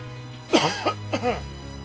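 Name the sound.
cough and throat clearing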